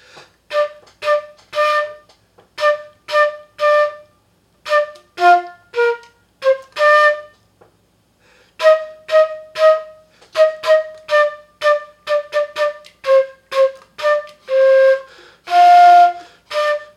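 Jingle Bells is played on a bright, whistle-like instrument with some wrong notes: a string of clipped, evenly paced tones, a brief pause midway, then the tune resumes and ends on a longer held note.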